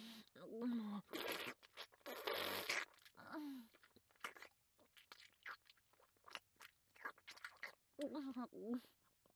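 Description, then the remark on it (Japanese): Wet chewing and smacking mouth sounds come in irregular bursts of clicks and squelches, with a few short voiced murmurs in between. “これ、ほんと咀嚼しないと飲み込めるの。”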